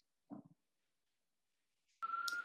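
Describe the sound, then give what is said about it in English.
A loud ambulance siren in a New York street cuts in abruptly near the end, holding a steady high wail over street rumble, after a brief low thump and a stretch of near silence. “Sorry, there is an ambulance. That's New York for sure.”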